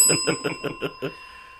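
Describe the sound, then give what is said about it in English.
A bell rings in a quick burst of about six rapid, evenly spaced strikes, then a clear ringing tone lingers and fades. It's fairly loud, with no talking. “Ring that bell.”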